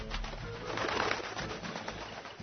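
A pigeon coos in low, throaty, rolling tones that run steadily for a couple of seconds at moderate volume, with no voices present.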